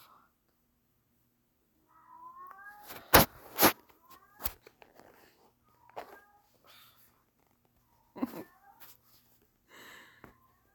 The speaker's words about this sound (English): Sorry, I had to pause, because as usual, I get interrupted by my cats, but it's okay.